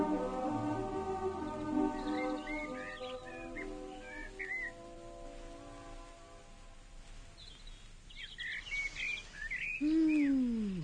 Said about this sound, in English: Heavenly. It's so peaceful. Yes, I'll bet those birds sing all night.